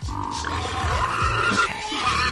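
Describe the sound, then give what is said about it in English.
A loud, harsh animal noise like a pig's strained squealing grunt, continuous for a couple of seconds with a gravelly, roaring edge and steady intensity, no talking over it. “Imagine if that's the noise a teacup pig made.”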